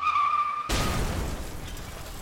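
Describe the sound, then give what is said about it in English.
A shrill, steady tire screech gives way to a sudden loud crash as two vehicles collide head-on, then a noisy wash of debris and rumble that slowly fades. No one speaks. “A car crash. Two vehicles in a head-on collision.”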